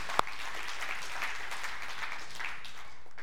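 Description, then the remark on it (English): A church audience breaks into steady, dense applause for reaching its fundraising goal, a continuous wash of many hands clapping at an even level, with one sharp louder clap near the start and no talking. “Somebody ought to clap about that.”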